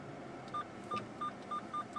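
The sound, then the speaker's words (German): Short electronic beeps repeat at a quickening pace, each a bright tone with a faint harmonic above it, like a car's parking sensor warning of an approaching obstacle, over a soft background hum. “Ist zu piepsen und dann noch 7 Meter.”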